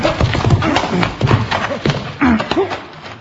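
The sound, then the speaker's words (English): A horse's hooves clip-clop in a dense, shuffling rhythm, with a whinny breaking through and muffled voices mixed in. “Now, come down off of that horse.”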